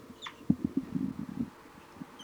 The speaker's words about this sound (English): The birds have calmed down, and the juveniles have been giving banging calls, and the adults are now giving both flight, toop, and alarm calls.